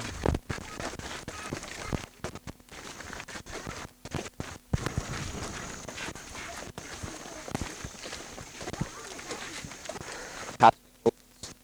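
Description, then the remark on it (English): Light rain patters steadily, with scattered irregular drops ticking and tapping over a soft continuous hiss, a few sharper taps standing out near the end. “Wasn't much of a rain.”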